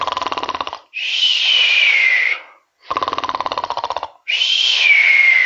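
Loud, close snoring in two full cycles, each a buzzing, rattling inhale followed by a long whistling exhale that slides downward in pitch, with no talking.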